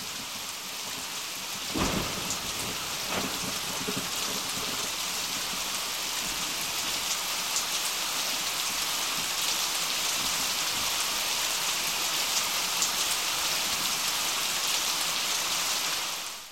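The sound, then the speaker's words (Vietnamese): Heavy rain pours down in a steady, dense roar, with a sharp crack of thunder near the start and a softer rumble shortly after. No voices are heard. “Mưa rơi bắt đầu từ giờ Thìn và đến khoảng trước sau giờ Ngọ thì tạnh.”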